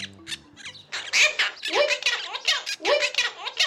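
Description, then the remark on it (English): A small monk parakeet (Argentine parrot) chatters in a scratchy, squawking voice, mimicking the Spanish phrase for "I love you so much" in rapid bursts, fairly loud with no other voices. “This bird is saying, "I love you so much," in Spanish. It's the monk parakeet or Argentine parrot.”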